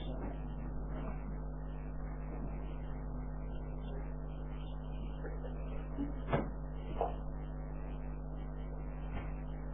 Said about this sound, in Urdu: یہ پنکھے بھی چلا دے ہیں بہت گرمی لگ رہی ہے ابھی لوگ.